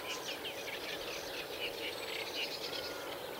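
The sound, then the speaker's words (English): A steady, busy chatter of small songbirds fills a reed bed in Wales, a continuous scratchy warbling of reed warblers with repeated chirps and a chiffchaff singing, layered over a soft background hiss, no voices present. “You can hear the reed warblers still chuntering away.”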